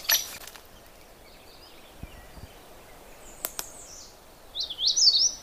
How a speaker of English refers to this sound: That's the magnolia warbler. Very short, simple song. And I'm not going to try to explain it, because the problem with the magnolia warbler is it sings a whole bunch of different songs. And this is just one of them, one of many.